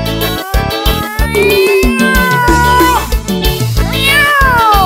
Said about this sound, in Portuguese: Esse gato não para de miar, não aguento mais não.